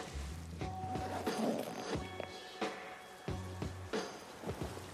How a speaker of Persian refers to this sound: یا خدا چه بارونیه.